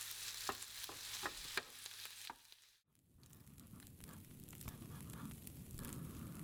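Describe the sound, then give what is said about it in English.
A knife chops on a board in a steady run of sharp knocks, then after a brief pause a pan sizzles and food is stirred, with no voices. “The chopping and stirring continue in simmering silence.”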